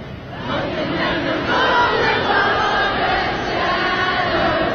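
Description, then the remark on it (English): After the power goes out, a large crowd keeps singing together in unison with no instruments, a dense, steady wall of many voices holding a melody, loud and sustained throughout with a slight swell in the middle. “Yeah, there's the power went out. I mean, the crowd just continued. Yep, they all know it.”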